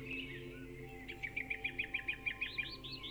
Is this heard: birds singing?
yes